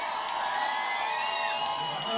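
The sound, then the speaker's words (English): A large crowd at a rally in the Atlanta area roars and cheers continuously, with scattered whoops and shrill whistles rising above a dense, steady wash of noise. “welcome to our rally to the Atlanta area. Make some noise, make some noise, make some noise.”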